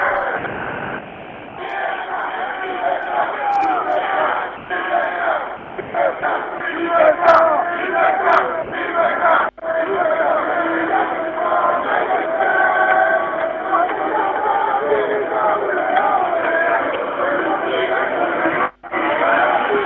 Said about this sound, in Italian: I compagni stanno urlando gli slogan, io per il momento vi faccio sentire gli slogan dei compagni.